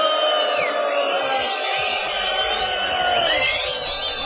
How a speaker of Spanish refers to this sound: Es esta una silbatina contra todo lo que nos molesta. Y con este abucheo general, qué lindo irse así.